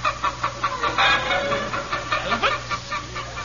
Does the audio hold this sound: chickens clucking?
yes